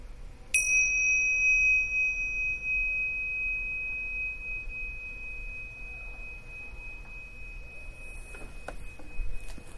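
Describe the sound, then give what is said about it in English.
A meditation bell is struck once to end a meditation, giving a clear, bright ring that lingers and slowly fades over several seconds amid quiet. “when I sound the bell, you can open your eyes and come out of the meditation.”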